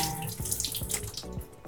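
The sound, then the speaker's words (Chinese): Tap water runs in a steady, full stream, splashing unevenly as a peeled century egg is rinsed beneath it, with soft low thumps breaking the flow. No one speaks. “那皮蛋剥好了，我会用水冲一下，”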